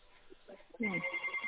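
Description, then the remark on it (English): A telephone starts ringing partway through, a loud, steady electronic trill that continues to the end, after a moment of faint, muffled voices. “I'll go down to the phone.”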